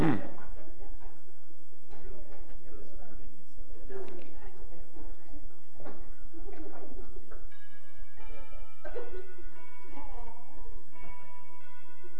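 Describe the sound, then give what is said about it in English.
A front-door doorbell rings out a multi-note electronic melody, steady clear chime tones in the latter part, following a stretch of people talking and shuffling. “I want everybody to hear that doorbell.”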